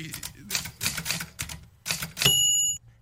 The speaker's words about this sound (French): Ouais. Et donc, sonnette, hein?